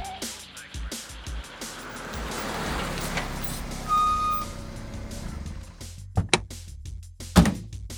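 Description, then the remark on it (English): A car engine rumbles steadily, with a short run of high electronic beeps midway and a couple of sharp thunks near the end, like doors shutting. “Listen again. This is a car.”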